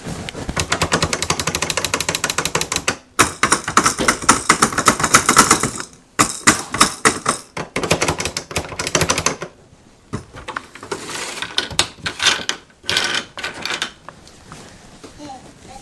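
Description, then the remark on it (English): Rapid mechanical clicking from fiddling with a clothes dryer, coming in dense rattling bursts separated by short pauses, with faint voices now and then in the background. “Oh, you just leave this dryer alone.”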